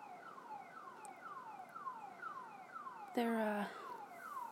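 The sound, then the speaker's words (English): First Air's cargo alarm sounds with a repeating falling electronic whoop, about once every half second, steady and fairly loud, briefly overlapped by a short harsher blaring burst near the end. “How about I introduce to you First Air's cargo alarm?”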